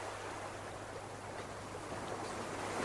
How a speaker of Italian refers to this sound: Fortissimo. Si sentiva il rumore del mare. Forte come non l'avevo mai sentito.